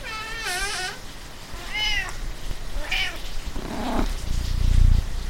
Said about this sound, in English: Stupid cat. Where the hell did you come from?